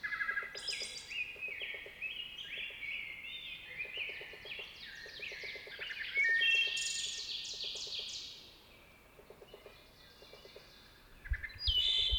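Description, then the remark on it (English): A rose-breasted grosbeak sings in a forest, a long, rich, warbling song of rapid sweet phrases, fairly close, with a faint rhythmic insect-like buzzing in the background. “The rose-breasted grosbeak I heard earlier is now much closer. Such a musical song from one of our most colorful singers.”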